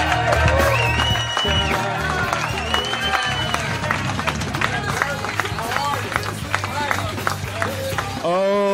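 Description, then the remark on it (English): An audience claps and cheers continuously as Aaron Berg, originally from Toronto, comes to the stage for a battle: a dense crackle of many hands with whoops and shouting voices rising above it, staying loud throughout before cutting off abruptly at the end. “Clap it up for Aaron Berg.”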